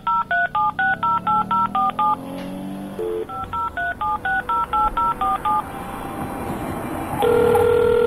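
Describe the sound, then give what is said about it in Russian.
A touch-tone phone being dialed: two quick runs of clear, evenly spaced keypad beeps separated by a short pause, ending in a steady, louder line tone. No one speaks. “Согласился, наконец, отец и торопливо зашагал к телефону.”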